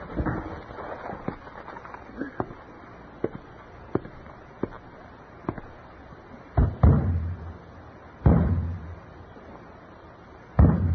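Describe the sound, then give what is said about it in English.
Repeated sharp thumps and bangs strike the side of a broken radio's wooden cabinet at irregular intervals, a few landing heavier and louder, over a faint steady hiss with no voices. “Bang it again.”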